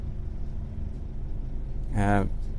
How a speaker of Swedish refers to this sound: Alltså det som pågår i en annan del av världen samtidigt som jag sitter här och pratar på en buss.